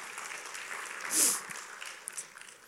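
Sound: audience clapping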